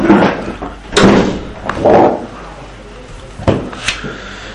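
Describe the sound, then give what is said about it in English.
A door is pushed shut with a couple of sharp knocks and thuds, preceded by shuffling and handle rattling, ending in a firm latch-like clunk. “we could close the door if you like.”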